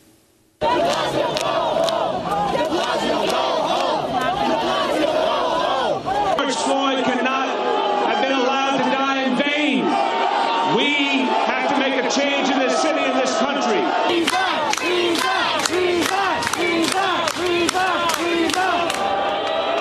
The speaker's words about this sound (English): The crowd erupted in boos and jeers as Mayor Bill de Blasio took the microphone.